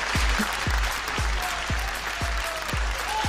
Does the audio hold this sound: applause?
yes